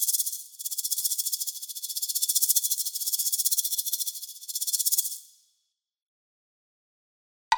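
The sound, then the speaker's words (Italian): A green and yellow snake with a darting tongue, having warmed up, slithers and hisses in one long, steady, high airy breath for about five seconds, with slight pulsing, then fades out into silence before a brief click at the very end. “E quando si è ben riscaldato, riprende a strisciare e a sibilare.”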